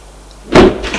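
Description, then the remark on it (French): A door leading to stairs in an airport opens after a moment of near silence: a loud, broad clunk followed by a softer scraping swish, with no voices. “Ouvre une porte”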